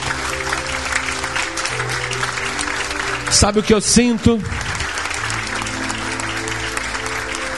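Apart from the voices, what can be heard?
audience applause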